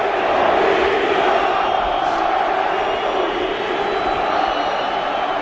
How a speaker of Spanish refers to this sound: ¿Qué grita el público? Escucha